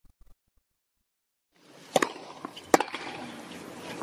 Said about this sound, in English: Well, here's one video of her smashing her racket. But this kind of stuff will get you criticized no matter what kind of player you are. Here, watch.